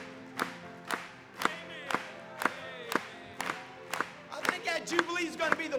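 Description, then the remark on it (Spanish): An audience claps together during worship praising Christ, in a steady rhythm, about two sharp claps per second, over voices singing or calling out; the clapping grows busier and louder near the end. “Vamos a aplaudir una vez más.”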